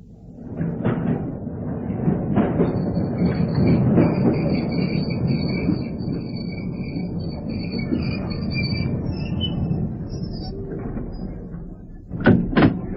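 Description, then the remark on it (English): An underground train rumbles through a station with a broad low roar and a steady high whine, then doors slide with a sharp burst near the end. Fairly loud, no voices. “What time's the next train to Piccadilly Circus?”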